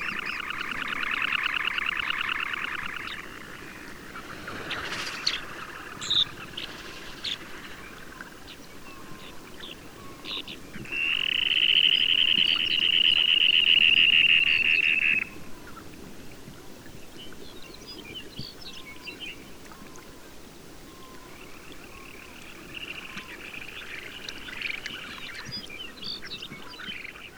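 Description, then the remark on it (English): A busy colony of Arctic and Aleutian terns, long-billed dowitchers and other shorebirds at Safety Sound, Alaska, calls in high, shrill chatter. Scattered sharp chirps punctuate the chorus, and a louder, sustained burst of crying swells up midway before fading back. “In Alaska, Safety Sound is an important bird area, protecting Arctic and Aleutian terns, along with long-billed dowitchers and many other shorebirds.”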